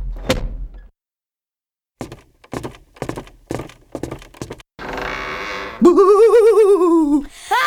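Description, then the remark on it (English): A door thuds shut at the start, then a run of quick rhythmic clatters, a hiss of noise, and an eerie wavering, warbling tone. No one speaks. “Quick, close the door”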